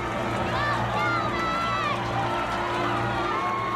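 An arena crowd of fans in the stands cheers and claps steadily, with overlapping shouts and raised voices forming a loud, continuous roar that holds for the whole few seconds without a break.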